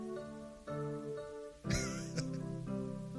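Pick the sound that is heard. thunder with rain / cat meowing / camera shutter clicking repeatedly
cat meowing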